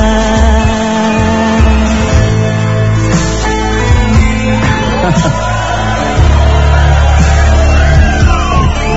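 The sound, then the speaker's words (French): A recording of a loud crowd cheering, whooping and shouting over applause is played back, a dense, continuous roar filling the whole stretch with overlapping yells rising and falling. “Excuse-moi, c'est juste des applaudissements que j'ai enregistrés.”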